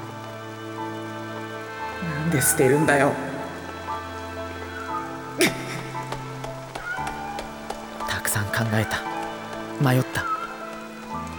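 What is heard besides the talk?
rain falling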